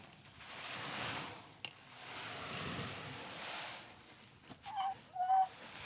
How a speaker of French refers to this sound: Donc là, on va partir, on va se déplacer, on va se mettre dans une ambiance maritime. On imagine qu'on est au bord de la mer, on entend les vagues.